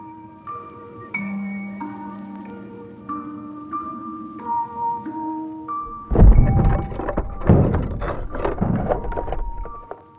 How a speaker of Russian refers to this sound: Как-то ночью Мориса разбудил громкий звук. Что-то тяжелое упало в гостиной, да так сильно, что задрожало даже столовое серебро в шкафу на кухне.